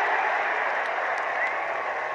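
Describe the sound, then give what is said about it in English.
A large crowd at Riders Field baseball ballpark roars and applauds after a play at home plate, a loud, steady wash of cheering that holds without a break for the whole two seconds, with no voices talking over it. “The crowd that was at Riders Field last night.”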